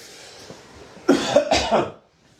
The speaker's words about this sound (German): Habt ihr nicht alle gesagt, ich huste nicht mehr so viel, wenn ich nicht mehr rauche? Naja, alles Lüge.